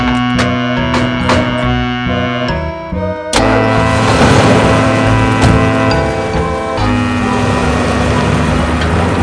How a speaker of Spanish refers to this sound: Y así, se subieron todos al coche del presidente y salieron camino del zoológico.